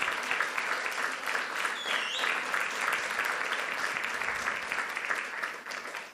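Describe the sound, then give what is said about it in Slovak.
Steady audience applause, a dense wash of clapping hands that holds at an even level for about six seconds before easing off at the very end. “Môžeme zdať Ježišovi jeden veľký potlesk za cenu víťazstva.”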